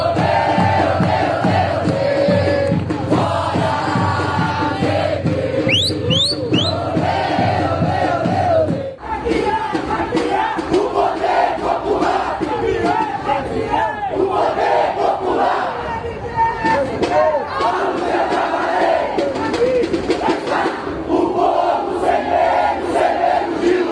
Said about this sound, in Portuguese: Logo, os gritos e músicas passaram a ser ouvidos em coro no vão livre do MASP.